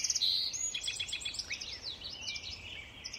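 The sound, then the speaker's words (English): A dawn chorus of song sparrows, common yellowthroats, American robins and red-winged blackbirds at Tektaxan Marsh on Saturna Island, British Columbia, with overlapping chirps, trills and warbling calls from several birds at once, continuous with no voices. “The marsh is now alive with the splashing of Virginia rails and dawn chorus of the song sparrows, common yellowthroats, American robins, and red-winged blackbirds.”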